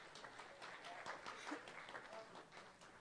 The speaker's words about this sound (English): And let's give her a warm round of applause.